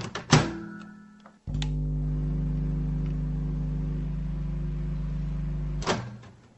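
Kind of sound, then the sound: household object, microwave oven running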